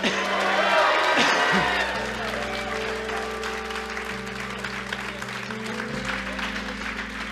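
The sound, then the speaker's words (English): A church audience shouts to the Lord and applauds in a loud, dense burst that gradually settles into steady clapping, while sustained low keyboard chords enter underneath after the first second or two. “Somebody give the Lord a shout.”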